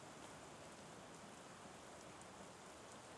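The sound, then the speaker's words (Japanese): Steady rain falls continuously, a dense even hiss of drops with faint pattering on a surface, fairly soft and constant throughout with no voices. “この雨、夜まで続いてたら俺も意識してみようかな。”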